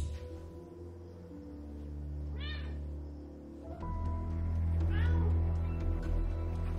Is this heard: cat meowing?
yes